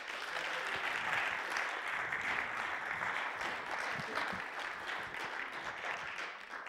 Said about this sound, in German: Gebt noch einen Applaus.